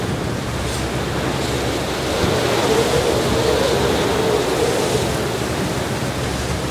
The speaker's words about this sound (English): Oh, man, that water getting choppy. That's a big wave. Now we understand better why there are no other boats around, right? Yeah. Definitely much windier, choppier, bigger waves on our way back to the marina.